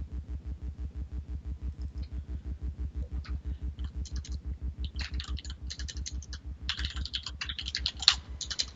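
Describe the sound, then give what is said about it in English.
Rapid, frantic typing on a computer keyboard, with bursts of dense clicking that grow busier toward the end, over a steady low rhythmic hum. No one speaks. “I hear frantic typing.”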